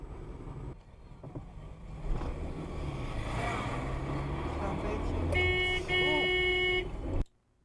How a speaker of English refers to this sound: Someone suddenly swerves in. Oh no! Oh no! Oh no! Just one little honk. Beep.